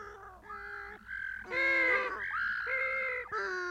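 A group of penguins calling, loud, harsh braying squawks overlapping one another in a continuous noisy chorus that swells in the middle, with no one speaking.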